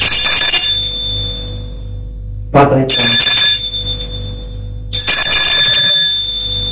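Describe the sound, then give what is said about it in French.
A doorbell at someone's door rings repeatedly with no answer, in bright, metallic bursts, each trailing off before the next starts. A voice speaks briefly in the pause, with a steady low hum underneath. “Elle sonne à la porte.”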